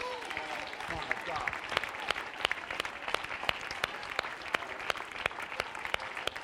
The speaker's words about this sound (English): You ought to begin to shout unto God, because I'm not out yet. It's not over yet. God's not finished with me yet. Clap your hands and give her.